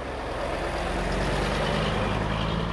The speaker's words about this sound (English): For now, the garbage trucks are rolling again, but Beirut may have to prepare for even bigger trash piles.